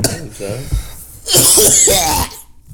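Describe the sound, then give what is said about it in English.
Someone clears their throat with a few rough, voiced rasps, then breaks into a loud, harsh burst of coughing that lasts under a second before trailing off. “I think I just coughed up blood.”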